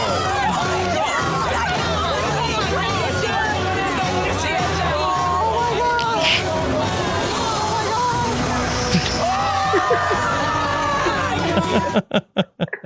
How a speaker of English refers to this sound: What a reaction from the crowd. Oh, they just pulled it off so well.